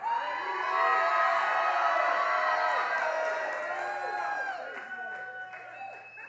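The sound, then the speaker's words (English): A large crowd shouts and cheers together on the call to shout, a dense wall of overlapping voices with rising and falling yells, loud throughout and easing slightly toward the end. “And the 7th time, when the priest had blown the trumpets, Joshua said to the people, whisper, shout!”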